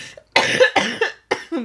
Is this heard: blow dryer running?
no